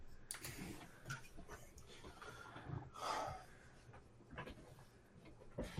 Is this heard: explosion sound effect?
no